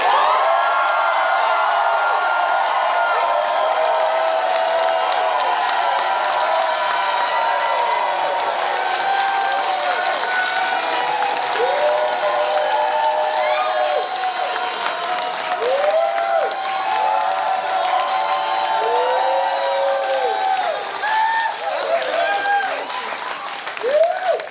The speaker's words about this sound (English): And that will measure your applause.